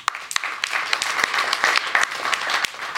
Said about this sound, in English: Let me just say, this is a phenomenal group of people. So I want to give an opportunity to give yourselves a round of applause.